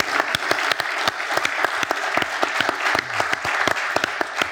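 A room full of people claps steadily, the dense patter of many hands blending into a continuous, fairly loud wash of applause that holds its level for several seconds.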